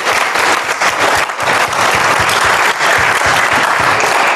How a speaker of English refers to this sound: Wow. I think that deserves some applause.